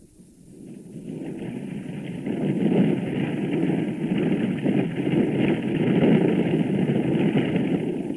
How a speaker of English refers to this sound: The huge chopper lands on a sandy beach to offload supplies.